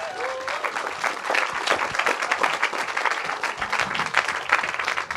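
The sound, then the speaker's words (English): A crowd breaks into sustained applause to welcome a speaker being introduced, dense overlapping claps at a steady, fairly loud level throughout with no voices standing out. “Can we give her a massive round of applause, please?”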